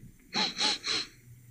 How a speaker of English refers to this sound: That were me sniffing. That were the breeze.